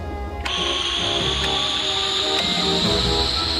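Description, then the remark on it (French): An airlock depressurizing in a Tintin audio drama, with Tintin in a spacesuit inside the airlock: after a brief moment of quiet, a loud, steady hiss of escaping air bursts in and holds to the end, with a thin whistling tone that slowly rises in pitch. “Dépressurisation du sas.”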